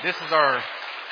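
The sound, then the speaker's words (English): Dense, even crackle of the audience at El Paso Bella Church clapping for the youth group worship team, with a voice briefly over it at first, then the applause carrying on alone at a steady level. “And would you guys give these guys a round of applause, please?”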